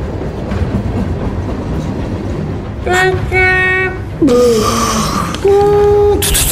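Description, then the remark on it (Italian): An express train roars by at speed with a steady rumbling clatter, its horn blaring in three long, loud blasts over the final few seconds. “Tutti insieme escono dallo stadio e prendono il treno espresso Frecciarazzo.”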